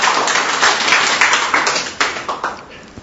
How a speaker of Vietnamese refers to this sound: Một tràng pháo tay nữa để mình cũng hãnh diện với nước mình chứ.